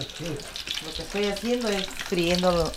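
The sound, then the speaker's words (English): Blood sausages (morongo), thick and very dark, almost black, crackle and sizzle steadily in a hot frying pan in a tiny kitchen of a modest house near Churchill Downs, mid-morning, turned with a fork, a continuous hiss of frying fat, while a voice murmurs faintly in the background. “What I'm doing is frying up these sausages, morongo, blood sausage.”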